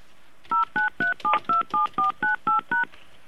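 Ten quick telephone keypad tones beep in a steady rhythm, each a short dual-pitched electronic tone, as a caller punches digits into a phone keypad one after another during a live call, with no voices present.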